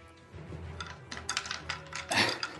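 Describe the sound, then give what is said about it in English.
A small clatter of two six-sided dice rolled across a hard tabletop for cold damage in a tabletop game, totaling 9: a quick run of sharp clicks and rattles building to a louder burst before settling, with no one talking. “So they just take damage at the start of their 2D6. Turn. 2d6. Cold, I believe. Okay, sure. Roll it.”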